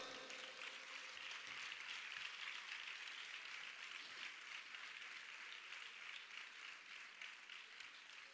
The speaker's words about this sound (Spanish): Así que fuerte aplauso para él y bien merecido ese Caracol de Oro.